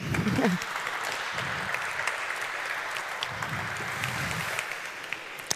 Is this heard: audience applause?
yes